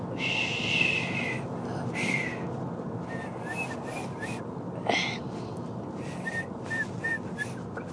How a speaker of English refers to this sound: I heard a whistle. I actually think I heard a whistle. That's me whistling.